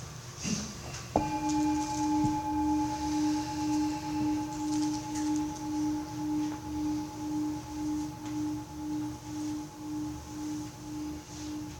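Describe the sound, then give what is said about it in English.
A meditation bell is struck once to begin a group meditation and rings out with a low, steady tone that wavers in slow, regular pulses, fading gradually over about ten seconds with no talking. “I'll ring the bell.”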